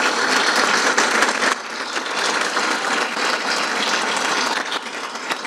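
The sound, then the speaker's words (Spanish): Sustained audience applause for Raúl Vázquez fills the whole stretch, in a building named Santacruceños que defendieron las Islas Malvinas. It is a dense wash of many hands clapping at steady loudness, easing slightly after the first second and a half but continuing without pause. “Raúl Vázquez, un aplauso para él.”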